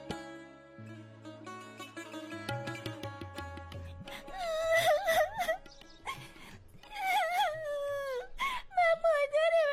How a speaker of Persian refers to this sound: مادرت هستم، گریه نکو دیگه.